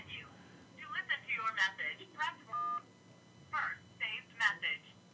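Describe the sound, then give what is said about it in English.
A telephone number being dialed: a quick series of short electronic touch-tone beeps in uneven bursts, with one longer steady tone partway through, clear. “Yeah, get the phone number off there so nobody hears his phone number.”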